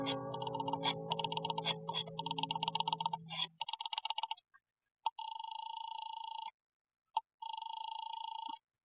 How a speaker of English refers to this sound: I bolted the door, picked up the phone, and started to dial the number of Harvey's office. My hand was shaking so that I fumbled the dial and had to start again.